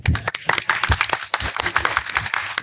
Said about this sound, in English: Oh, let's clap.